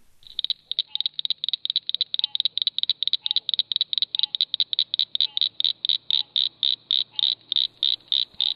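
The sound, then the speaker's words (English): A northern cricket frog calls alone in a long series of sharp, high, clicking notes, rattling quickly at first and then slowing into more widely spaced clicks, loud against faint background noise. “the northern cricket frogs tend to mix things up a little bit, and they have a little rattle at the end of their calls”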